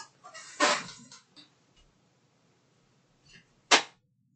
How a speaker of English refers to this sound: I had to slap the Xbox to get it open. As a lot of people need to do because as cool as the Xbox 360 is, it's also pretty crappy with its hardware, hence the Red Ring of Death.